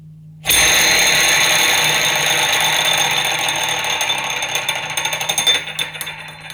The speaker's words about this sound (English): spinning it around the door handle so fast that the inner ring is actually moving as well as it's spinning